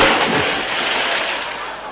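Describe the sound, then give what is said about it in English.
A loud splash of a man falling into water, a broad rushing wash of noise that churns for a couple of seconds and slowly fades, with no voices. “He's falling in the water.”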